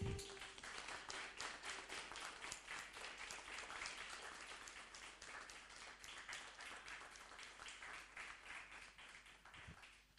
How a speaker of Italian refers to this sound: Io direi che il Consiglio intero si può alzare in piedi e fare un applauso a questo buon lavoro che è stato fatto.